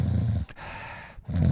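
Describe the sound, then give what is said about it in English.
A person imitates a deep nasopharynx snore: a low, rumbling inhale, a brief pause, a breathy hiss of exhale, then the guttural rumble starts again. Fairly loud, with no talking. “Then you have nasopharynx snorers.”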